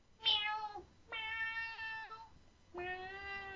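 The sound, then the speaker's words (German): A kitten meows three times, high-pitched, each cry drawn out with a wavering tone and short pauses between them; no one is talking. “Genau das Kätzchen.”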